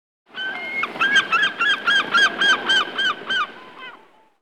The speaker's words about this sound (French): I can hear a seagull. J'entends un goéland.